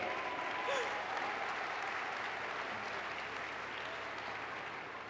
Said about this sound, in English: I can tell you they've been working tirelessly behind the scenes, so let's please give them all a round of applause,